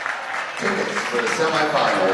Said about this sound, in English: Bishop Foley moves on to the state semifinals. Big round of applause here for Sandusky and Bishop Foley for a hard battle.